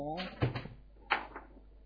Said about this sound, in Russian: Потом слышится стук в дверь. Ага, на этот раз какое какой характер стука? Такой осторожный и виноватый.